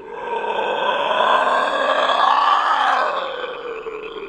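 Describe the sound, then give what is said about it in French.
A terrifying cry as a creature (the 'roule') and its horse vanish after a big handful of salt is thrown in its face as it gallops past a tree: a loud, raspy, roaring wail that holds for about four seconds, swelling in the middle before trailing off, with no talking. “Et dans un cri effroyable, roule et cheval disparaissent aussitôt.”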